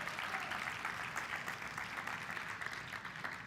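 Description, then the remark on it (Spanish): A crowd claps steadily for several seconds in applause for God as a just, kind and merciful king, a dense, continuous patter of many hands with no pauses, holding an even loudness throughout and no voices standing out above it. “¿Le podemos dar un aplauso porque Él es rey bondadoso y misericordioso?”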